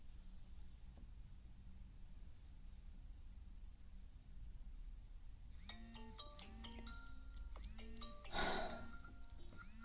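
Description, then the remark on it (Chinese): After several seconds of low, quiet hum, a phone ringtone for an incoming call late at night starts up, a bright electronic melody of stepped tones repeating steadily, with a brief noisy burst near the end. “他这么晚给你打电话干嘛？”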